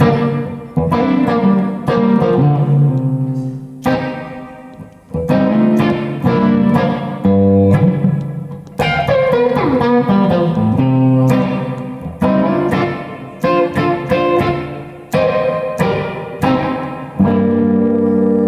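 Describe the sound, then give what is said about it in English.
Electric guitar played loud through a Spring Chicken spring reverb pedal made by Maleco, with ringing chords and picked phrases that stop briefly and restart, each note trailing off into a wet, splashy tail. No voices. “Just a spring reverb.”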